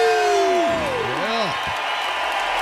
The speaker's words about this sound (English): One more sleep. We just chant those words, and then we just cheer.